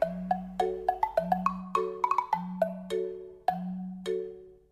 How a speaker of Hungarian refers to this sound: Nem szakadunk el még a telefontól, illetve a telefon kérdéskörétől, csak egy rövidet szusszanunk, hiszen azt hiszem nem túlzás az, amikor azt mondom, hogy a cserkészeknek is szüksége van egy kis szünetre, így mi most egy zenei szünetre lépünk ki.